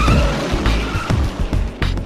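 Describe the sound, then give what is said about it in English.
A car engine roars while tires squeal and skid in sharp bursts, loud and continuous for a couple of seconds with no voices. “We're back in the car now, heading away from the bay.”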